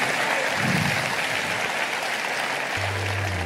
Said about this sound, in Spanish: Yo le daría un aplauso fuerte al Señor.